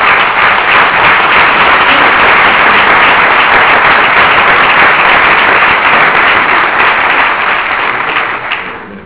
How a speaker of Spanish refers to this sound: Pues si no tienes tú que decir, damos la palabra sin más a don Braulio Rodríguez Plaza, arzobispo de Toledo y superior del rito hispano-mozárabe. Un aplauso y muchísimas gracias.